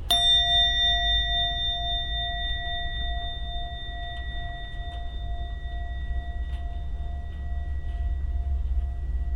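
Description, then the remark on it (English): A singing bowl is struck once and its clear, pure tone rings on steadily for several seconds, sustaining with bright overtones above a low background rumble, no voices present. “and then the reverberation of the singing bowl, the sound of the singing bowl, that is the settling, that is the remaining of the mind with the meditation object.”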